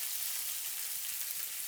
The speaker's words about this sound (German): Und jetzt braten wir das erstmal so ein ganz kleines bisschen an.